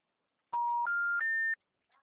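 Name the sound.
telephone busy signal tones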